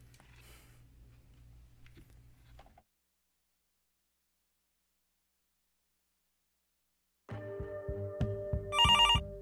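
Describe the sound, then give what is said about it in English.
After a low hum and a stretch of silence, a loud telephone starts ringing, with a rapid trilling bell burst at the end. No one speaks. “Pick up the phone, Lower Mainland.”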